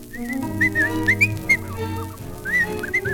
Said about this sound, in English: If you wonder why I'm humming, and if you wonder why I'm whistling, if you wonder why I'm singing, I'm singing and I'm humming and I'm whistling all the day.